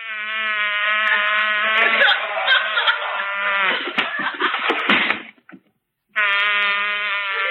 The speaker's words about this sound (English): That's a bee. He's still working on it. Oh, yeah. Go away, B. Go away. Go away.